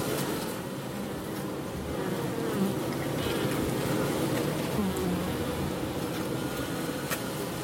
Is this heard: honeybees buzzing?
yes